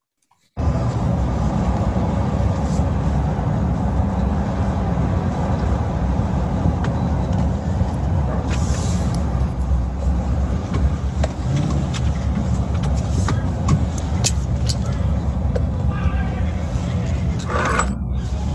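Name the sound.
car driving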